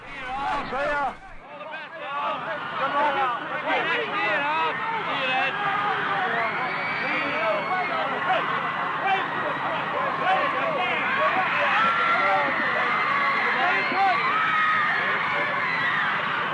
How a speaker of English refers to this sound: the fans stand on the concourse above, screaming and yelling and waving goodbye. As you hear them in the background